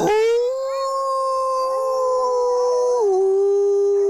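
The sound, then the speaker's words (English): A single grey wolf howls in one long, steady, tonal note that holds level, then dips slightly lower near the end, loud and clear with no other sounds. “Today, the grey wolf conflict in Norway.”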